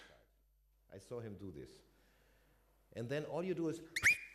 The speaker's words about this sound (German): es kommt von der anderen Seite und du pfeifst und der Taxi-Driver, der Taxler, also der Droschkenfahrer, versteht dich